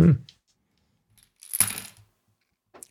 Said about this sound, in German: Wenn nur so wenig teilnehmen, dann dauert das Würfeln immer so lang. Ja, ich könnte ja einen 20er Würfel nehmen, dann sind wir schneller am Ziel.